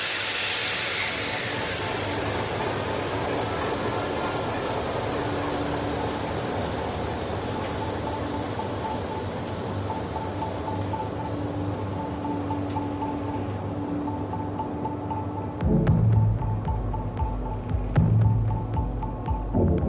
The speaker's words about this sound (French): Il y a le morceau …, absolument, qui est la référence du moteur du Joseph Rotti 2, donc le bateau sur lequel je suis parti en 2013.